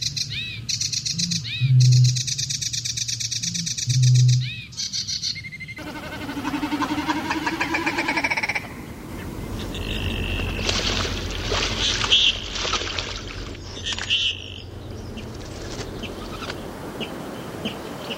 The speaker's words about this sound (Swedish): Och så en fågel som var alldeles särskilt efterlängtad. Det låter ju verkligen som en kärsångare här nu som sjunger.